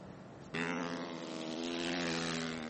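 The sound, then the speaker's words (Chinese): After a brief quieter moment, a loud motorcycle engine suddenly roars in and holds a steady, high-revving droning buzz to the end, with no talking; motorcycles racing on a frozen lake in the United States at about 112 km/h over ice nearly half a metre thick. “路面结冰会让多数司机感到紧张，但是在冰上飞驰却是美国一些摩托车手期待已久的，来看报道。”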